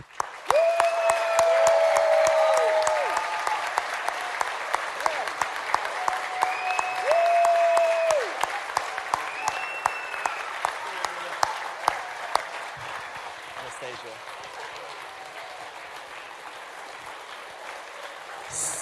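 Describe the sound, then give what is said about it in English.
An audience applauds and cheers after a baptism: dense, steady clapping runs throughout, with drawn-out whoops and whistle-like cries rising over it in the first half before the clapping thins slightly toward the end. “Let's keep cheering”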